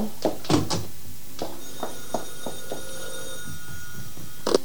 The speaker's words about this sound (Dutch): Oh jee, telefoon.